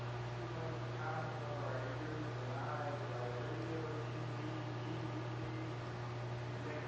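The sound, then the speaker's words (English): An air conditioner runs with a steady, unbroken mechanical hum and a low tonal drone, holding the same moderate loudness throughout with no pauses or changes. “He's speaking over the air conditioner.”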